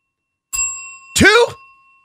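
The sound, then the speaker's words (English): A single bright bell strike rings out and sustains with a long shimmering decay, while a brief voice speaks over the lingering tone. “Let's ring the bell a couple times.”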